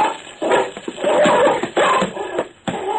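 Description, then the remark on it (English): A big brown dog named Brownie snarls and growls ferociously in rough, overlapping bursts, loud, with a chaotic scuffling quality and no voices, as it leaps on and attacks a man. “The man fired one shot before he went down under the attack.”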